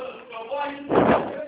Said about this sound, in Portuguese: Deixa eu fechar a porta, senão eu não consigo conversar com você.